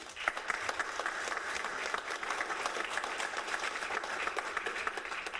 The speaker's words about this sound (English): Put a round of applause